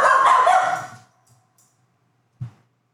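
A dog lets out one loud, drawn-out bark that trails off, followed after a pause by a short, softer, lower woof. No one speaks.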